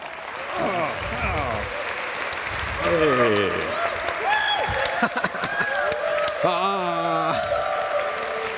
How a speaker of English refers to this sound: So give a big round of applause